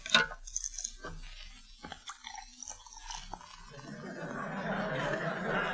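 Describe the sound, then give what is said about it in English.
A sharp pop as a beer bottle cap comes off, a few clinks and handling noises, then a steady, fizzing gush of cold beer being poured into a tall glass, growing fuller toward the end. “So especially for Sergeant Willie Anderson, please open a bottle of cold beer and pour it into a tall glass.”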